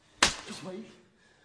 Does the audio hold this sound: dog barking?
no